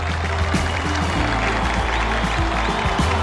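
A large crowd at a Rock and Roll Hall of Fame induction cheers and applauds continuously, a dense, steady wash of clapping and roaring voices that stays loud throughout without letting up.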